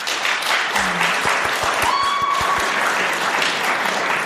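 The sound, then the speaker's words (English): An audience claps throughout to vote for their preferred film version, a dense, steady wash of many hands applauding at once, fairly loud, with a few brief whistles or cheers rising above it. “Clap your hands if you prefer the non-tinkered with version.”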